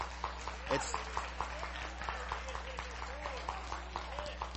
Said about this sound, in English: And let's give a clap and a cheer for that, because you know what? That's the word of the Lord.